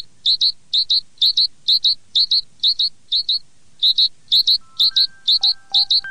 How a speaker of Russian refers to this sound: Ну, конечно, это синица. Синички каждому знакомы. Зимой они скачут по подоконнику. Мы бросаем им крошки, делаем для них кормушки. Можно подумать, что синица – постоянный городской житель. Но это все-таки лесная птица. Нет ее подвижней среди пернатых.